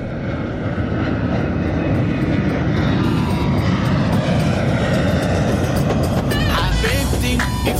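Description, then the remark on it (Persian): A steady, loud airplane engine roar during a flight to Dubai fills the whole stretch, a dense unbroken drone like the inside of a cabin in flight, with a faint voice-like sound briefly rising near the end. “ببند کمربند و بریم دبی ببینیم چی این داستان شکلاته.”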